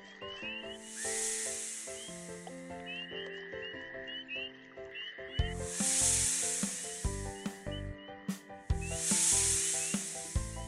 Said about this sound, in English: It's a snake! Stop, stop! We are safe. This is a friendly snake. S makes the sound as in snake.